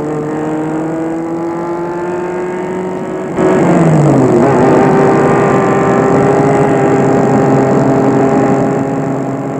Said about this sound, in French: Le soir, elles sont allées se promener à la ville voisine, qui est à 70 km de là. Elles ont pris la voiture de sport blanche de la tante.